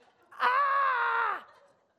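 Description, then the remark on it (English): A voice imitates a woman screaming: one loud, sustained shriek lasting about a second, held steady at a high pitch before it cuts off, with no other talk around it. “She'd run off screaming.”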